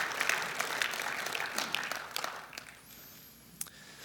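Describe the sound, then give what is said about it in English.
An audience claps in praise to the Lord, a dense patter of many hands that slowly thins and quiets toward the end, with a few sharper individual claps standing out and a faint high tone near the close. “Because it's the Lord that we're clapping to.”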